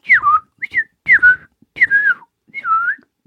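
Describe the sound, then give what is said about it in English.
A person whistles a quick run of five warbling notes, each one sliding downward from a high pitch, clear and fairly loud with brief gaps between them and no talking. “Like I said, those warblings are really crazy. It really sounds like you're playing an instrument when they're able to like flip the notes like that.”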